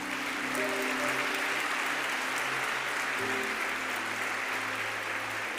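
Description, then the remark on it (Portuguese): An audience applauds with dense, steady clapping that fills the whole stretch of several seconds, while soft, sustained musical tones hum faintly underneath. “Celebre, aplauda.”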